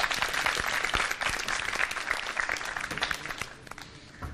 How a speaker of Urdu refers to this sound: ٹھیک ہے، ان کی حوصلہ افزائی ہونی چاہیے زوردار تالیوں کے ذریعے.